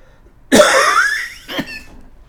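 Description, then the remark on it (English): A loud cough with a harsh, raspy burst followed by a shorter second cough about a second later, then quiet. No one speaks. “I just realized that my cough is going to come up on the recording of this thing.”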